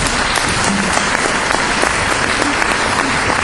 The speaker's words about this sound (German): Deswegen geben wir gleich wieder einen herzlichen Applaus.